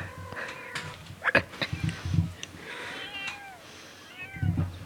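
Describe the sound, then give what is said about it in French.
A voice imitates a cat, giving several drawn-out, wavering meows in a row, moderately loud, with brief pauses between the cries. “Et je miaulerai tout le temps.”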